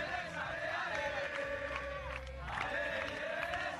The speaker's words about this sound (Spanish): Los gritos de la afición del conjunto madrileño que tendrá que buscar su oportunidad en otra temporada.